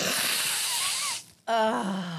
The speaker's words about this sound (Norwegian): Du må lage en sånn ASMR til. Ja, for nå skal du snyte deg. Jeg må jo det.